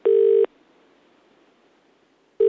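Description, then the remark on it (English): A telephone call being placed: a loud, steady electronic line tone sounds briefly, falls silent for about two seconds, then starts again. No one speaks. “Here's call number one.”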